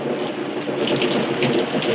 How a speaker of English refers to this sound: Outside in the street, the rain is pouring down. Maybe it'll stop soon.